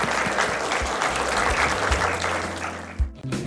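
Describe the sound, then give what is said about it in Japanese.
Sustained applause from an audience sending off two guests at the close of an event, a dense steady wash of many hands clapping at full volume, with a few sharper low thumps, then easing off briefly near the end. “どうぞ大きな拍手でお送りください。”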